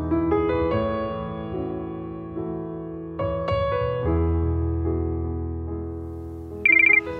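A mobile phone ringtone plays a simple electronic melody of sustained, steady notes, loud, with no voices, ending in a brighter, higher-pitched burst, as a phone rings shortly before its owner enters the ICU.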